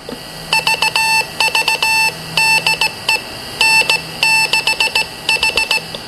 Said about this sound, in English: So I just ID'd R station, which is N6H in Morse code, and that's all it takes.